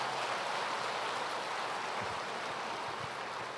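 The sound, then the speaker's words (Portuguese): An audience applauds a speaker for the Portuguese he learned in six months, with dense, continuous clapping that holds steady at an even level for the whole stretch, with no voices breaking through. “Então eu acho que ele merecia um aplauso pelo português dele.”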